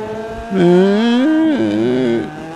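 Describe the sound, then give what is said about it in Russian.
A Volvo car's 2-litre, 420-horsepower engine hums for about two seconds, its tone rising and dipping as it revs, then fading back to a quieter idle. “давайте посмотрим на автомобиль. Вот он, как он звучит-то хотя бы, 2 литра.”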